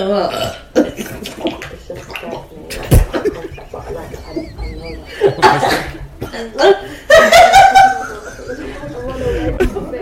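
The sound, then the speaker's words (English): A loud, gurgling, involuntary burp from a woman stands out among voices, chuckles and snorting throat noises. “Is when she just goes... like an involuntary burp.”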